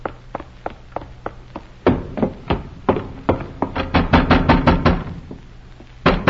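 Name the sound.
knocking on a door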